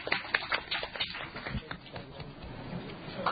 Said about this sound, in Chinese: 好，俾啲掌声啊，大家。